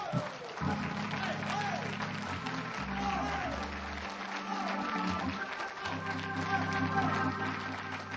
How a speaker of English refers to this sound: If you're thankful for his word, go ahead and give him one more hand clap of praise.